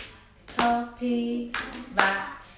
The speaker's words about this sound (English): Knocking on the door